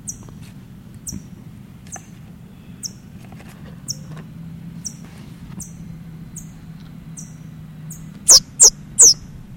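A parrot chick with a yellow bill, right by the microphone, gives three loud, shrill squeals in quick succession near the end, after a run of faint, high, evenly spaced chips from its parents close by, over a low steady rumble.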